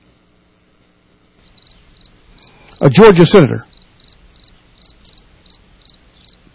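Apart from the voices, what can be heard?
crickets chirping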